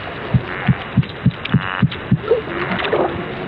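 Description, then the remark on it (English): Popping sounds from a bony fish, made as its muscles pull and push and water is released: seven low, soft thumps in a steady rhythm, each about a third of a second apart, followed by fainter, irregular bubbling noise. No one speaks. “And as that water is released, that's what's making those popping sounds.”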